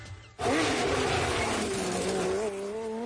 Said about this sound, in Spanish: Ya rugen los motores en Gran Canaria. Llega la 40 edición del Rally Las Canarias, El Corte Inglés y COPE Canarias.